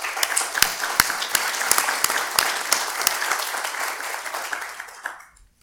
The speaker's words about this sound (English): So let's just give them a hand of applause.